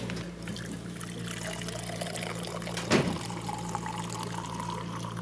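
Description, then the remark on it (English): Wine brewed on the premises is poured steadily into cups during an hourly serving at a medically supervised drinking program, with a low, constant hum, and a brief clunk lands midway through the trickle. “Until then, they continue with their medically supervised drinking program in a regular, hourly, and highly anticipated event known as the Pour.”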